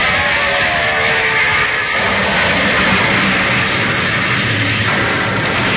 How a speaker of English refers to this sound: Through the gray sky, still heavy with the smoke of battle, a lone airplane roars toward its target.